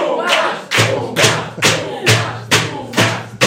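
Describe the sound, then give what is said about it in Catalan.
A crowd claps together to welcome Tomàs Molina, in a steady, loud rhythm, about two claps per second, with a deep thumping beat pulsing underneath each clap. “Rebem un fort aplaudiment a Tomàs Molina.”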